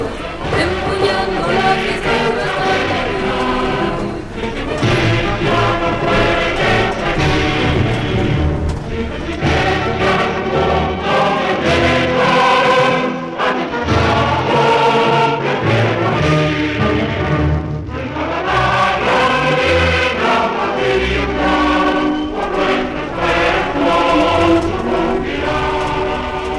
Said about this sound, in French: Vive la faille, les cris « Vive la faille, vive la CNT » alternaient avec les couplets des chants anarchistes. Ou l'hymne des jeunesses libertaires.